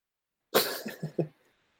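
A single close, harsh cough bursts out, followed quickly by three shorter, throaty hacks in a rapid sequence, then silence. No one is talking.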